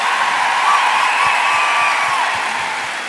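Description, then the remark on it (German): A loud, sustained wash of crowd cheering and applause for a performing troupe, dense clapping with whoops and shouts layered on top, holding steady before easing off slightly at the end. “Ey, Applaus für diese unfassbar tolle Truppe.”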